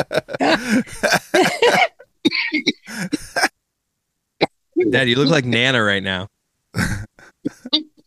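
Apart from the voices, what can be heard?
coughing and throat clearing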